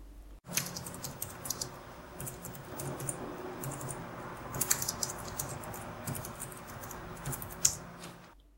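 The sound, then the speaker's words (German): Rapid, light, bright clicking of scissor-switch laptop keyboard keys being typed on, a steady patter of crisp taps with a few sharper clacks, with no voices. “Diese wie eine Miniaturhebebühne wirkende Konstruktion verleiht den Tasten Stabilität und ist auch der Grund für das gemeinhin helle Klicken der Notebook-Tastaturen.”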